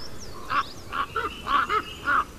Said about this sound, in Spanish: Una pareja volando, por ahí arriba, crocitando, cro. Un bandito de cuervos, 5 o 6. Aquí un bandito.